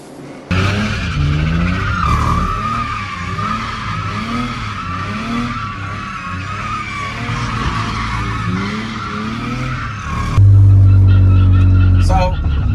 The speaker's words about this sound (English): You heard the sound of the tires on the start?